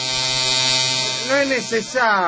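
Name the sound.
electric hair clippers buzzing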